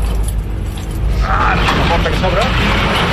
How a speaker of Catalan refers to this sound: Ah, la porta que s'obre.